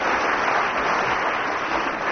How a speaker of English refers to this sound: Round of applause for Willie Ruskin. Thank you.